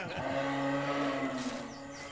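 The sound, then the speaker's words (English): A buck deer calls out with one long, low, moaning bellow that holds a steady, slightly wavering pitch for about two seconds. It is loud and alone, with no voices. “That's not Mario. That's a deer. Sounds like a buck.”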